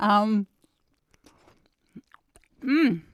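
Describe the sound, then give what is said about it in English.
Soft, wet chewing of a piece of orange by a blindfolded taster, a scatter of quiet mouth clicks and squelches, framed by a short voiced hum at the start and another at the end. “What happened to the crunch? I have to say, good sir, that this reminds me of doing one of your cryptic crosswords where one feels rather duped and a little bit silly, because I would suggest that is an orange, not an apple.”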